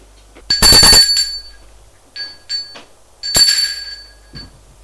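apartment doorbell ringing

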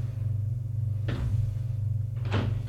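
bedroom door opening

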